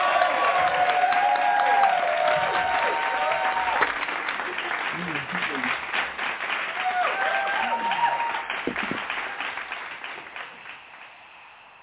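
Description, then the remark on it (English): A crowd in a church sanctuary claps steadily and enthusiastically as a hand clap praise to welcome guest speakers from a Christian ministry, with scattered voices calling out and cheering over the applause, which gradually tapers off toward the end. “And we are going to welcome them with a hand clap praise.”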